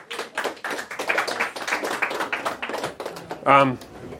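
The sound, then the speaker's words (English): A short burst of audience applause for young people who tried to recite the order of the books of the Bible, many hands clapping in a dense, steady patter, with a brief voiced shout or cheer rising near the end. “round of applause for these brave souls.”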